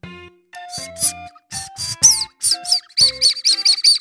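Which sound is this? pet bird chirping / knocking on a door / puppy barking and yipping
pet bird chirping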